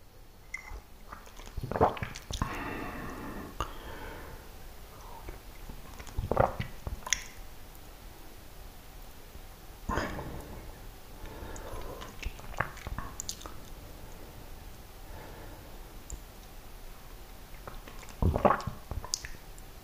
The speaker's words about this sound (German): Na gut, dann trinken wir auf die heutige Folge und schauen mal, was Sache ist.